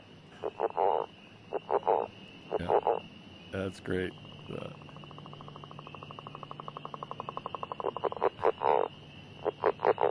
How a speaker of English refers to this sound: But we may hear the northern leopard frog certainly before the end of the month, before we're on again in May. You'll hear northern leopard frogs. Maybe we can play that one. Sure. Yeah. It's like a balloon, isn't it?